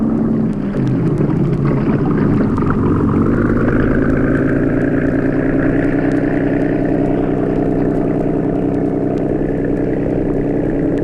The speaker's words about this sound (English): Professor Santos and Carl entered the boathouse and boarded the cabin cruiser. And within a few minutes, the boat was backed out into clear water.